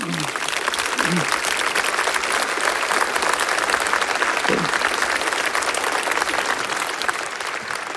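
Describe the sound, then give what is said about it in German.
A crowd on the main square of Hartberg in eastern Styria, Austria, applauds steadily, a dense, even patter of many hands clapping at constant loudness throughout, with a few brief low voice sounds in the first seconds. “Die grüßen wir mal, denke ich, mit einem anständigen oststeirischen Applaus.”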